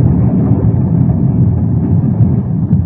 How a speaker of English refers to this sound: Sounded like a bomb. Maybe that's the planes that started coming over. Planes overhead in this weather, more likely it was a ship hitting a mine.